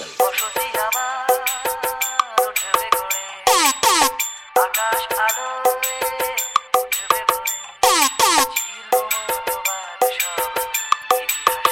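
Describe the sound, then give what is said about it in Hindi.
Loud, bright electronic tones from a DJ's treble test played together with a vocal test, in rapid, choppy stabs with occasional sweeping pitch slides, repeating steadily throughout with no talking. “आइए आपको सुनाते हैं अपने अंदाज में अपने डीजे का झंकार और वोकल टेस्ट दोनों ही साथ में।”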